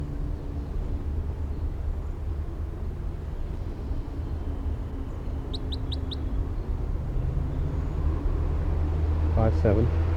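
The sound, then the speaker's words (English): A lone wild orange male bird gives a quick burst of four high, sharp chirps midway, then a short call near the end, over a steady windy outdoor rumble. “Recording the wild bird again at 1:09 p.m.”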